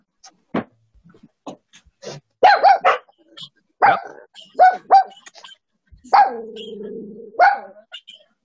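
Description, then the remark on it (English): A dog barks repeatedly, sharp irregular yaps in short bursts, with one longer drawn-out bark-whine near the end; otherwise fairly quiet between barks. “If anyone has a barking dog, just go ahead and just put yourself on mute.”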